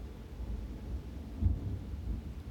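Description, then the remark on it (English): Low, steady rumble of thunder rolling outside on a very windy day, a deep muffled swell that peaks briefly midway before settling back into a continuous murmur, with no voices. “With added thunder.”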